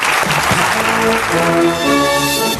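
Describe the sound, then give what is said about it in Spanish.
Loud, continuous applause fills the whole stretch, a dense clatter of many hands clapping at once, with sustained musical tones swelling underneath toward the end. “Entonces, un aplauso para ella.”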